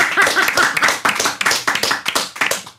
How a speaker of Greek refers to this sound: Ένα δυνατό χειροκρότημα και πάλι από το κοινό